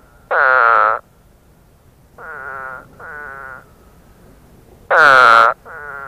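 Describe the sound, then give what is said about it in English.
A spadefoot toad gives explosive, nasal, retching calls, somewhat like an exaggerated cartoon vomiting sound: five short bursts at uneven intervals, the first and fourth loud, the others softer, with quiet outdoor background between. “The spadefoot toad has an explosive nasal utterance, somewhat like an exaggerated cartoon vomiting sound.”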